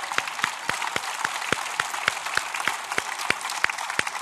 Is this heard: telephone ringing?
no